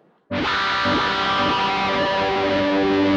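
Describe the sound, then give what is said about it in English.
An electric guitar played through a combination of effects, wah-wah, delay and distortion together, bursts in with a loud, sustained chord, thick with distortion and smeared by delay, its harmonics ringing and echoing steadily without any pause. “And, you know, and it's this combination of sounds, you know, having them run into each other is what helps a guitarist mold their personal sound.”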